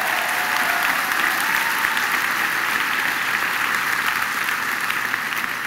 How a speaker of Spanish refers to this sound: Si lo va a aplaudir, apláudalo a él con todo.